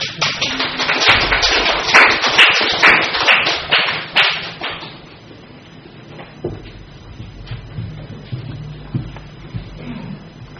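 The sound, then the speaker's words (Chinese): A church audience bursts into dense, lively applause in thanks to Jesus. It holds strong for about five seconds, then quickly thins out and fades, leaving a quiet hush with a few faint scattered sounds. “请各位帮我忙，用最热烈掌声多谢主耶稣。”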